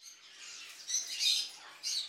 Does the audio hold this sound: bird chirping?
yes